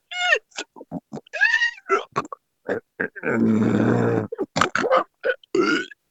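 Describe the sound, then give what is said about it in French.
A person imitates a wild beast's grunting: a rapid string of short, guttural snorts and grunts, then one long rasping growl, followed by more choppy grunts. “Est-ce que vous pourriez m'imiter un peu le bruit de cette bête sauvage?”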